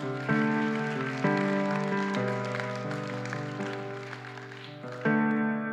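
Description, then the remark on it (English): A crowd claps after a prayer, in a dense, continuous wash of applause, while sustained keyboard chords play underneath, shifting every second or so. “Come on, can we clap?”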